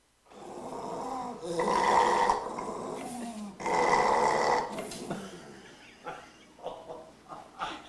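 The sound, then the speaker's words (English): A dog makes loud, rough, throaty noises: two long drawn-out grumbling bursts, then a few shorter, quieter grunts trailing off. “But as amazing and as intelligent as dogs are, they also tend to do this.”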